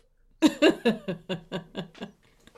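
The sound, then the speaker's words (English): A burst of about eight quick, buzzy mouth-fart noises, fairly loud at first, then fading in a steady sputtering rhythm with no talking. “She's going to be so good at mouth fart noises by the time this whole thing's over.”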